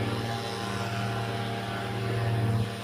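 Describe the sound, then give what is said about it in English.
A couple of leaf blowers run outside without pause, a steady motorized drone with a low humming buzz and a broad airy hiss that swells slightly near the end. No one speaks. “These guys with their leaf blowers, there's a couple of them.”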